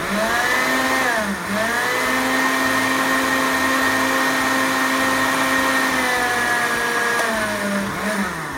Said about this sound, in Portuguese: Bom, agora que tá tudo batido, vamos levar, pegar uma caneca funda ou uma panela, não importa, e colocar este creme aqui que está no liquidificador para cozinhar.